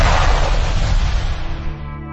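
A loud firecracker-like explosion bursts right at the start, close and powerful, then trails off into a deep rolling rumble that slowly fades over about two seconds, with no voices.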